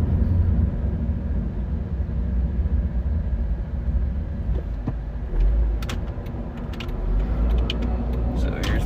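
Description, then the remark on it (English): A steady low rumble of a car's interior while driving past a building, with continuous road and engine noise and a few faint clicks and rattles near the end. “I'm driving past this building where I raked my nails.”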